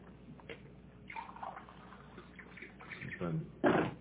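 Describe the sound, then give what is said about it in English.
Water pours into a glass, a gurgling trickle with some handling noise, ending in a brief louder splash or clunk near the end. “Hold on, let me get some water.”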